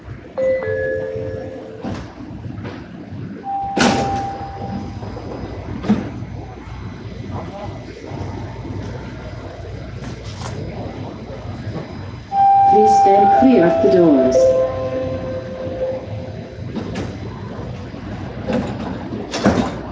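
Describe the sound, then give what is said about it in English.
Train doors slide open on the left at Mills Station with a whirring, whining mechanism midway through, over steady carriage rumble, rattles and a brief tone earlier, with faint voices in the background. “Doors will open on the left.”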